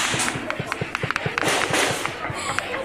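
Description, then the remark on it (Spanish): Rapid gunshots crackle in dense, overlapping bursts of crossfire during an armed clash between criminal groups in Chiapas, Mexico, with sharp bangs repeating almost continuously. Muffled voices sit underneath. “Nada más agáchense, agáchense, porque aquí están pegando los tiros.”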